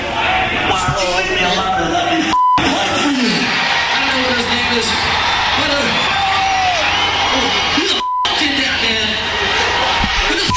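Loud, dense death metal with deep growled, bellowing vocals over a wall of distorted guitars and drums, briefly cutting out twice before crashing back in.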